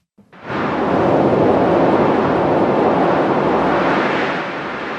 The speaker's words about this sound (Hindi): यह है ओडिशा और आंध्र प्रदेश तट पर 2 दिन पहले टकराने वाला तूफान तितली की शोर। यह तूफान अब ओडिशा के इलाकों को पार करते हुए बंगाल की तरफ बढ़ रहा है।